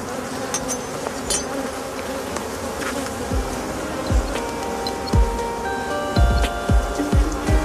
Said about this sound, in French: effectivement, l'autre ruche, c'est une ruche qui est très forte. En ce moment, il y a à peu près 40 à 50 000 abeilles à l'intérieur, effectivement avec deux réos, une réos qui est déjà pleine de miel et une deuxième qui est à 80% bientôt remplie.